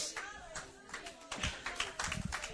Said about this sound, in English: Let's stand our feet right now and clap our hands to the Lord.